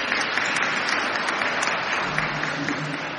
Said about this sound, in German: Ist das eine super Brücke? Ist doch wohl ein Applaus wert.